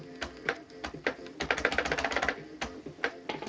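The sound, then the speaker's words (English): Mechanical keyboard keys with springs inside clicking in an uneven typing rhythm, a click-clack as keys go down and up, with scattered single clacks and a quick flurry of keystrokes in the middle, and no voices. “Anyway, the keys themselves actually have springs and whatnot in them. And they go down a lot farther, and they make a mechanical click.”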